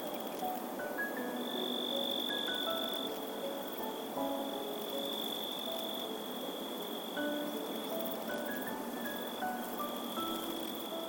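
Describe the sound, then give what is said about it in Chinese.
A steady high insect trill runs throughout, layered with scattered chirps from crickets and katydids making sound by rubbing their wings, a dense nighttime chorus with no voices, constant and moderately loud. “他们分别是能利用摩擦翅膀发出声音、节奏感超好的蟋蟀姐姐，也是利用摩擦翅膀发出温柔声音的纺织娘阿姨。”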